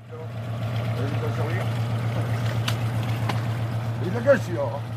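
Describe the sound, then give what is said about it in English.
Harbour ambience at a town's port not far from Cherbourg, by moored fishing boats: a steady low engine drone with splashing, lapping water and faint, indistinct voices, plus a brief louder knock near the end. “Several fishing boats were moored at the town's port, and the fishermen here said they were worried.”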